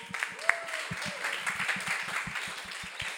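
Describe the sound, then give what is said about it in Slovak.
An audience breaks into steady applause for the new generation of Ebenutu, a dense wash of many hands clapping at once, with a few sharper individual claps and brief high cheers or whistles rising above it. “A to je vlastne, ešte chcem doplniť, že podľa mňa aj ovocie tých duchovných obnov je táto nová generácia Ebenutu, takže potlesk.”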